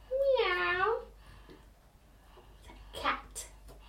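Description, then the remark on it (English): A young child's voice imitates a cat's meow, one drawn-out, rising and falling cry, loud, followed by quiet handling noises and a short, softer vocal sound. “What does a cat say? Meow. Meow.”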